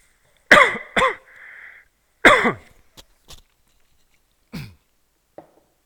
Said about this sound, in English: Sorry, I'm going to cough.